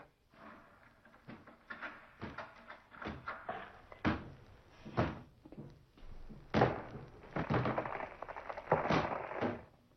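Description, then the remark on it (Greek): A locked room door is battered and forced open by two people throwing themselves against it together, with a string of heavy thuds and rattling bangs at an uneven pace, building to louder crashes near the end, with no talking. “Να πέσουμε και οι δυο μαζί στην πόρτα και θα δούμε.”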